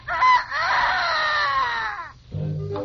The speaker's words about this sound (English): Well, look who's outside the barn. One of the best singers of the whole barnyard, Mrs. Hen herself. Sing something for us.